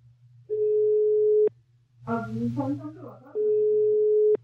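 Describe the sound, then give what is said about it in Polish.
A telephone ringing tone of a call to a guest on the Sport Cafe programme: a steady, single-pitched beep lasting about a second, then a short stretch of voice, then the same even tone again, over a low constant hum. “Zadzwońmy do ….”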